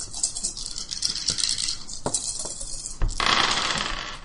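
Six dice clatter and rattle across a hard surface, with scattered sharp clicks building to a denser tumbling rattle near the end. Fairly loud, with no voices.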